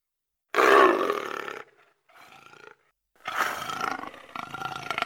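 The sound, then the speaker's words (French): A panther roars loudly, a deep rumbling snarl followed by a quieter growl, then a second long roar that trails off. No one speaks. “Une panthère qui avait tout entendu trouva la proposition d'une nouvelle élection pour le moins inattendue.”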